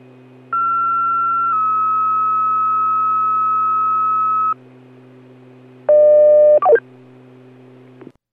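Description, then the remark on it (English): Steady electronic Pittsfield Fire dispatch paging tones, a second page for a field and tractor fire, over a low radio hum: a long tone that shifts pitch slightly and holds for about four seconds, then after a pause a short, louder stacked tone ending in a quick falling chirp. “Pittsfield Fire, second page.”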